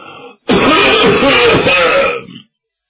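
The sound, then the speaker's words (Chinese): A male storyteller imitates Cheng Yaojin's coughing fit: a single loud, raspy burst of throaty hacking lasting about two seconds, after a brief quieter vocal sound. “方才还好好的，这阵咳嗽上的，往椅子上一坐”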